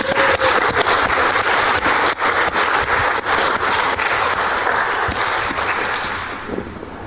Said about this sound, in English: It's an amazing composition, right? Absolutely captured the null sector there. Big hand, please.